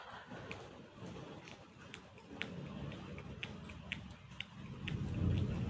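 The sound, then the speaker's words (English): Steady rain hisses throughout, with scattered sharp drips and taps landing at irregular intervals and a low rumble swelling near the end. “I don't know if you can pick on that with the rain in the background also.”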